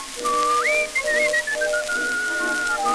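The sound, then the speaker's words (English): A person whistles a melody in clear, sustained notes, sliding up in pitch early on and then holding and stepping gently downward, heard over a steady background hiss. “He'd whistle night and day in his own peculiar way.”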